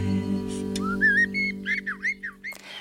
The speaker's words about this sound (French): On est néanmoins dehors avec ce chant d'oiseau.